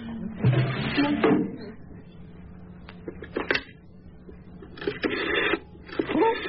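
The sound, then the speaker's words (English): A telephone being dialed in a phone booth, with a series of mechanical clicks and short whirring bursts separated by brief pauses, no voices present. “So you've memorized the number.”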